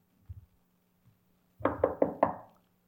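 Four firm knocks on a door in a quick, even rhythm, fairly loud, preceded by a couple of faint muffled thuds. No one speaks.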